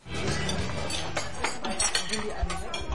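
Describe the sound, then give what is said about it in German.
Busy cafeteria clatter in a scene of the radio play Die Berliner Bänkelsänger: cutlery and dishes clinking in quick, irregular bright ticks over a steady murmur of indistinct chatter, continuous and moderately loud throughout. “Begab es sich, dass Frau Hund in der Cafeteria auf Frau Katz traf.”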